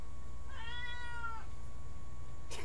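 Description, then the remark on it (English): A single drawn-out cat meow, rising then falling over about a second, clear, followed by a brief rustle against a low background hum. “Even my cat agrees.”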